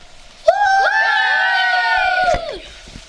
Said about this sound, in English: Thanks to the winning team for talking to us today. Let's finish with the final cheer from the champions.